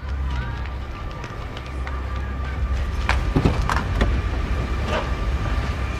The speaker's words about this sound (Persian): از خونه بیرون میان و سمت ماشین میدوند.